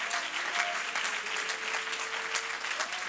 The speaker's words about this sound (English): You ought to clap your hands and say, thank you, Jesus. You ought to applaud the King today.